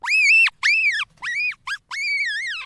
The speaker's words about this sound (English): I was catching baby marmots, which are really cute, and this baby marmot gave this horrific scream.